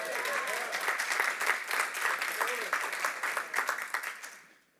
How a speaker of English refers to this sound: Question for those golf claps.